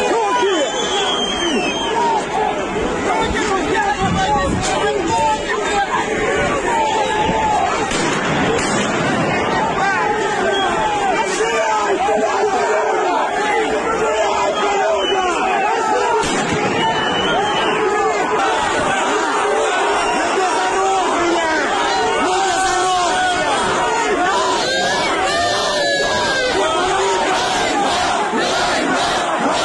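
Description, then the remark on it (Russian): A large, dense crowd of protesters in Kherson, Ukraine, shouts together continuously against Russian soldiers, loud, with overlapping voices chanting 'Kherson is Ukraine' and yelling throughout and no pauses or quiet moments. “Военные пытались задержать, российские военные пытались задержать некоторых митингующих, но жители города помешали им это сделать с криками «Херсон – это Украина».”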